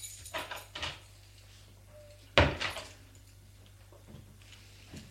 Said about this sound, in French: La porte de l'appartement s'ouvre.